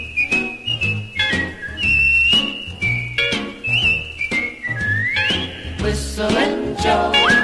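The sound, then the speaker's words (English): A person whistles a bright, bouncy melody in clear, sustained notes that glide up and down, carried over a steady, rhythmic band accompaniment with no voices. “He's such a simple, happy whistling guy.”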